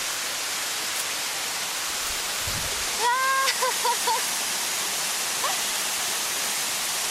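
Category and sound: nature, waterfall rushing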